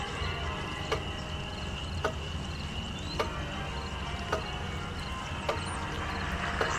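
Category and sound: household object, clock ticking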